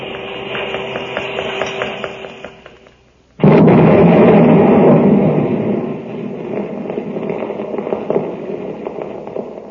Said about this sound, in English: There it goes. Three whole buildings blown to bits.